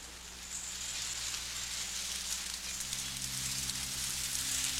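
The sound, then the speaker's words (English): Steady, dense patter of rain falling on the leaves of trees in a tropical rainforest, a continuous soft hiss with a low hum beneath it, no voices present. “As you become aware of the rain falling about you, see it falling gently on the leaves of the trees.”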